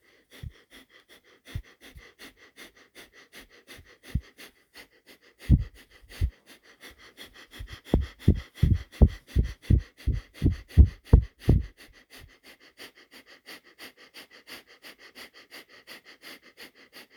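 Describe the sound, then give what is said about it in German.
Rhythmic breathing in and out through the nose during a guided breathing exercise, sharp: scattered sniffs first, then a quick, steady run of about a dozen forceful nasal breaths that stops abruptly, leaving faint breathing. “Und wir atmen durch die Nase ein und aus.”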